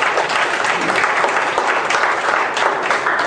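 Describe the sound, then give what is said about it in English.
An audience at a sermon claps steadily as applause and praise to God, a dense, continuous wash of many hands applauding at an even loudness throughout, with no voices standing out. “Give God a hand of applause and praise.”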